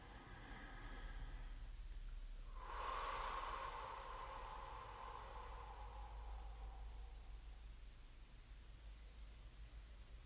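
A single slow, airy breath swells up and then fades over several seconds, soft, against a faint hiss of background noise with no talking.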